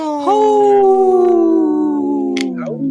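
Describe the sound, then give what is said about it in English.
A single long wolf howl, loud, rising at the start and holding a steady tone before slowly sliding lower and fading out. “just got a last minute howl in there.”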